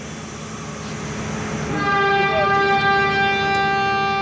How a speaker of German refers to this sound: Ein ohrenbetäubendes Hupen kündigt den Start des Nachtzugs in Bagdad an. Langsam rattert er aus dem ansonsten leeren Bahnhof der irakischen Hauptstadt.